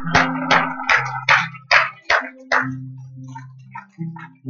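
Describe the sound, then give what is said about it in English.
A group claps for the Lord in a steady rhythm during a sermon, about seven sharp beats in quick succession that then trail off, over a sustained low tone with some faint scattered sounds afterward. “Give Lord a hand clap.”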